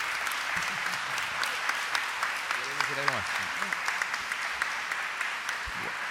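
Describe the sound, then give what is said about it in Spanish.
An audience applauds after a reading of a poem by Ernesto Cardenal, steadily for about six seconds, a dense, even wash of clapping with a few brief voices rising over it midway. “Yo creo que este aplauso, quien se lo merece, es Ernesto Cardenal, que fue el que escribió el poema.”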